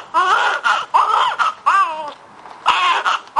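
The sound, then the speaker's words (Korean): A newborn baby gives its first cries in a series of short, high-pitched wails with brief gasps between them, fairly loud, with no other sounds around it. “세상의 첫 울음을 던지는 바로 그 순간 아기는 이미 과학자로 태어나는 것이다.”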